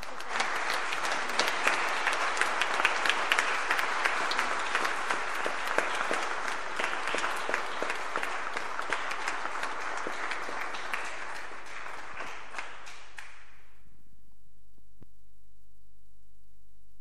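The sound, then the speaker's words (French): A crowd claps steadily to encourage a group of children, in a dense, crackling wash of applause for about thirteen seconds, then the clapping thins and stops, leaving only a low steady electrical hum. “Et je vous invite tout simplement à les encourager en les applaudissant.”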